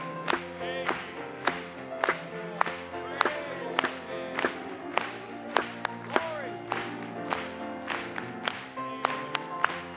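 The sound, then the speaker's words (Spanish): An audience claps together in a steady rhythm, sharp and evenly spaced, over singing voices and music that carry a melody underneath. “Cuando estemos entrando allí, vamos a aplaudirle.”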